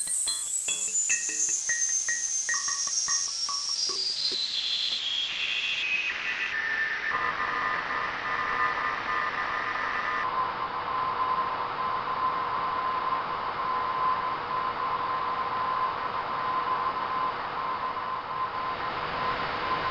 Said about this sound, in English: And there it is. Very audible Morse code. What's it saying? Well, the start is pretty easy to copy. V, V, V, G, B, R. Then it gets a little bit muddy.